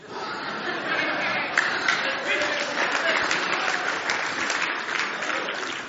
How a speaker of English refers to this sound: So does that hand clap mean y'all agree with her?